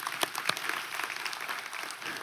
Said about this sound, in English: We're going to clap for that. Amen.